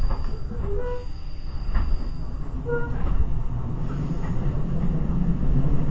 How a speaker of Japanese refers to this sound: この先の停車駅は奥、赤羽、浦和、埼玉新都心、終点大宮の順に停車をしてまいります。終点大宮には15時45分頃に到着をいたします。電車は10両編成です。